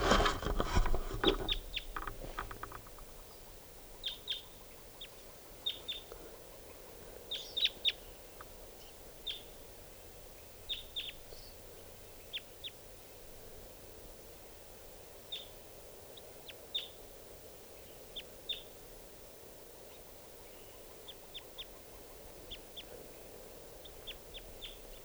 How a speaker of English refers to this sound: Wild bird.